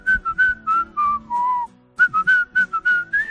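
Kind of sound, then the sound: human body sound, person whistling a tune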